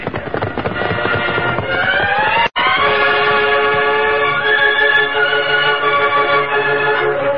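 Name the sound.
steam train approaching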